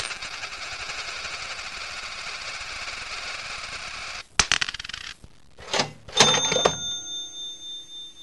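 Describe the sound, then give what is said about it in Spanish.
A steady mechanical whir cuts off, then a coin drops into a slot machine with a sharp clink, a brief rattle and a bright metallic ring that slowly fades. No one speaks. “Eche una moneda y quedará alucinado.”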